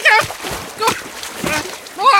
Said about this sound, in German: Wow! Hilfe! Schon wieder ein Spritzer!